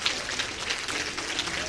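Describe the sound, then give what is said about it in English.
A crowd claps steadily, a dense, even patter of many hands with no pauses, fairly loud throughout the short stretch. “Stand to your feet and give her a big round of applause.”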